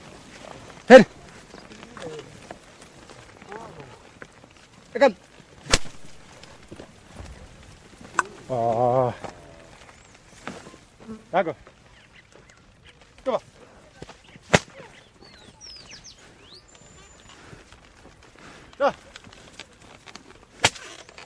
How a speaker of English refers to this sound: The whip you hear never actually touches the animals. They're far too valuable for that. And the ploughing is a very labour-intensive business. Just to alarm them, not to injure them.